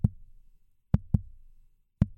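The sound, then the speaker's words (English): Low, muffled thumps of a fetal heartbeat on an ultrasound monitor pulse in a steady rhythm, each beat followed by a soft whooshing tail, with no voices. “Stacey Abrams, she believes that in some recording studio somewhere, somebody manufactured the sound of a baby's heartbeat.”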